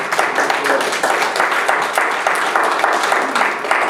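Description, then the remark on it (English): A crowd in a church applauding steadily for several seconds, many hands clapping at once into a dense, even patter that holds its level throughout, with a faint murmur of voices underneath. “I don't know if that deserves a hand of applause or not.”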